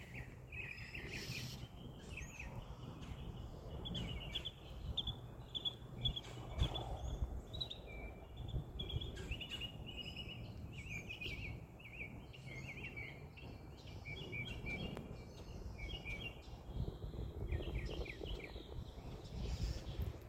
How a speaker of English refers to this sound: Seems like the mockingbirds are very angry at each other.